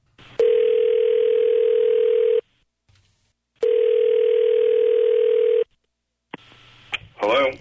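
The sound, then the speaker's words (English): A phone line rings twice as a call is placed to a caller's boyfriend, each ring a loud, steady electronic tone lasting about two seconds with a pause between, then a brief voice picks up at the end. “We'll call your boyfriend … right now”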